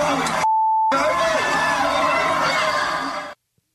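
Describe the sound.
A single steady, high-pitched censor bleep lasting about half a second covers a swear word in loud, excited speech, with busy crowd-like talk resuming right after it.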